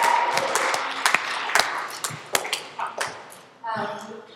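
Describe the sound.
A crowd applauds in a dense, steady patter of claps that thins out to a few scattered, sharper claps, and then a voice starts speaking as the applause fades.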